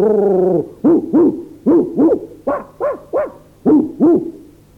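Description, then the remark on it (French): A voice imitates howling: one long drawn-out howl, then a quick series of about nine short rising-and-falling 'ouh' cries in loose pairs, fairly loud, like a pack of dogs baying. “Quelques instants après, je distinguai les hurlements de toute une meute.”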